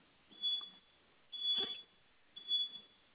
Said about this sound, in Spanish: Sonó un sonito, otra vez la campanita, otra vez me volvió a aparecer.